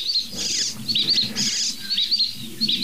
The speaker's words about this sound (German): Und da eine Dohle.